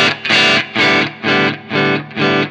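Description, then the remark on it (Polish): Heavily distorted electric guitar through an amp with the gain cranked all the way up and the presence knob turned up to 10, played as five loud, sizzling chord strums in an even rhythm, each ringing briefly with a bright, fizzy, saturated edge. “Słychać takie siarczyste, takie szkliste, takie skwierczące brzmienie, jak rozkręcimy na 10, prawda?”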